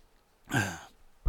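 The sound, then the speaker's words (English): One rough cough with a voiced, throaty edge, lasting about half a second, followed by a brief low thump. No talking. “Well, sorry, I'm talking slower to hopefully not cough.”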